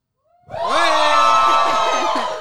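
crowd, audience cheering

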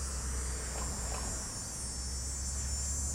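insect, cicadas buzzing

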